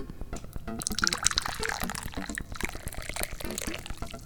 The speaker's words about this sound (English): I'm the chairman of the Dubious Goals Committee, and it's time to pour some tea.